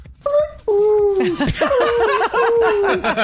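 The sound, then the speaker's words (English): A person loudly imitates the shrill call of a very loud bird heard at about 5:30 in the morning: several sustained, warbling whistle-like cries with rising and falling pitch and brief gaps between them. “there's this bird. It's about 5:30 in the morning, and all of a sudden I hear very, very loud.”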